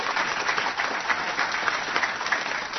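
A crowd applauds steadily, many hands clapping in a dense, even wash of sound that holds at a fairly constant loudness throughout, with no voices standing out.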